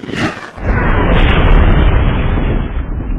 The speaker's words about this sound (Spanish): Seguidamente explotó desprendiendo un fulgor tan intenso o más que el sol. Instantes más tarde, las ondas generadas por el estallido irrumpieron con un ruido ensordecedor y tumbaron árboles en una superficie de más de 2.000 kilómetros cuadrados.